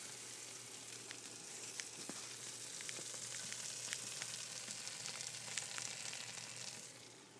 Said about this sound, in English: My food is popping, and I'm going to go stop it before I create a big mess, which I probably already did. There's the sound.